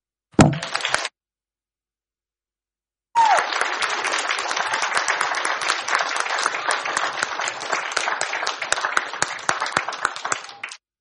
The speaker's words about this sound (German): Und können wir auch klatschen für Jesus? Das machen wir jetzt auch nochmal. Moment. 1, 2.